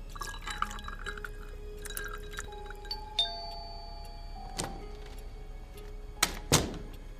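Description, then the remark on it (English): Water trickles and pours into glasses, with ringing glassy tones and a few sharp clinks of ice near the end. Fairly quiet, with no talking. “can I have a glass of water, Mrs. Jackson? It's so hot in here. I think we all need one, and with ice.”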